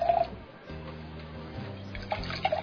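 Wine glugs steadily from a bottle into glasses, the tone rising as each glass fills, moderately loud, with a short pause between pours and no talking.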